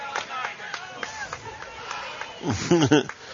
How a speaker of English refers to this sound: Sarcastic clap from the Brenham fans after he finally got one right.